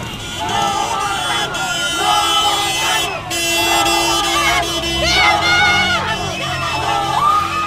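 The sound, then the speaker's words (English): Hundreds of people in the streets of Tegucigalpa cheer and shout continuously as a caravan passes through marginalized neighborhoods, many voices overlapping in loud, rhythmic chanting and whoops, with a steady din of street noise underneath. “Hundreds greeted the caravan as it passed through the more marginalized neighborhoods of the capital, Tegucigalpa, cheering them on and chanting.”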